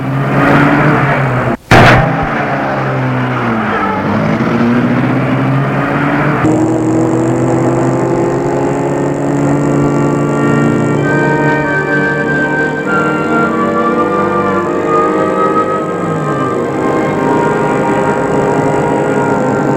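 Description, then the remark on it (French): A sharp thud like a car door shutting, then a steady engine drone whose pitch rises and shifts as the vehicle pulls away and keeps driving, loud, with no talking. “Dans la voiture et ils partent.”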